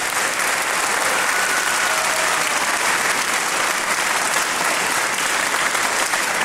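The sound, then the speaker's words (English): A large audience applauds the WLR radio recording crew and street team at an evening show, a dense, even wash of clapping that holds at full strength for the whole stretch without letting up, with no voices standing out above it. “So can we give them all a huge round of applause?”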